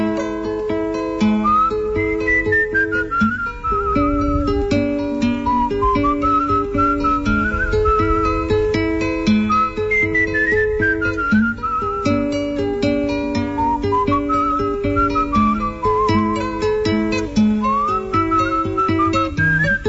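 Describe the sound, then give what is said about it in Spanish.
A slow, mournful whistled melody glides up and down over a steady instrumental accompaniment with a soft bass pulse. No one speaks. “se fue don Segundo con su silbido tristón”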